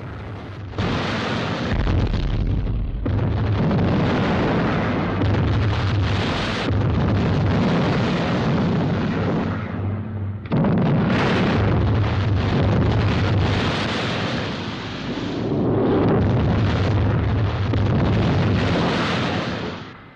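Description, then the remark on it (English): A sustained barrage of booming explosions as artillery shells burst around a ship sailing through them, loud, with heavy low rumbles and crackling bursts overlapping continuously, almost no gaps. “The ship sails on through a storm of exploding shells.”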